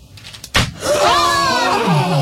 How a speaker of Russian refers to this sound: Вот это да, вот это мы услышали. Выстрел прозвучал, и этот участник, увы, покидает игру.